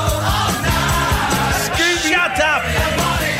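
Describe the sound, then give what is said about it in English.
A person yells loudly and continuously for a few seconds, the strained voice rising and falling, with a busy, noisy background that suggests other voices nearby. “You keep on shouting, you keep on shouting.”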